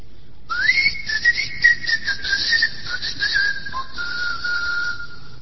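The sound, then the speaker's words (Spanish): A single long human whistle, loud, holding a high steady pitch with gentle rises and dips, then sliding slightly lower near the end. No talking. A whistled call in the whistle language of the island of Tracoda, whose inhabitants whistled instead of speaking. “La única característica de esta isla es que sus habitantes no hablaban, sino que silbaban.”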